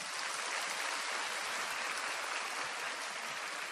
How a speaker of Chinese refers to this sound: 鼓掌。